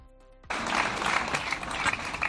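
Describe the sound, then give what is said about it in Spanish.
After a brief near-silent moment ending a minute of silence at a gathering in Pamplona, Navarra, a crowd bursts into sustained applause, a dense, steady clatter of many hands clapping that continues without pause to the end. “Un minuto de silencio en concentraciones silenciosas que terminaban con cálidos aplausos.”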